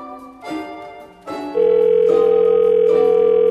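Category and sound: signal or alarm, telephone dialing and ringing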